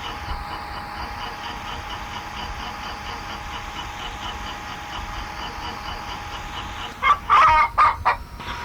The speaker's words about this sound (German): Henne.